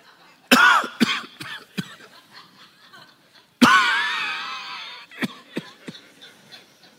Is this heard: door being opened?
no